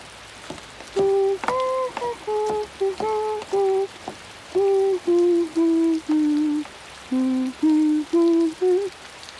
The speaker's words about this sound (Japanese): 本当に冷たい雨。